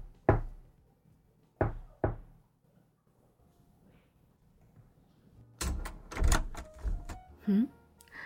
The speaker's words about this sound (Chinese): 你可以走到门前，先用力的敲三下，然后再轻轻的敲两下，她就会开门了。